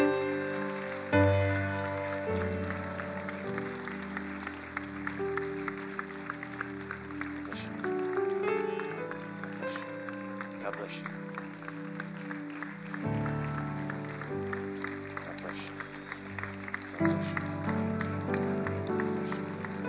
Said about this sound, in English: Can we give these folks a hand clap as they're coming?